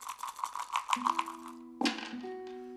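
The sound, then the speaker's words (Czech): Dice rattle in quick repeated clicks as a player takes a turn throwing them in a dice game, then land with a sharp clatter. Steady sustained tones hum underneath, and no one speaks. “Ukaž, teď házím já.”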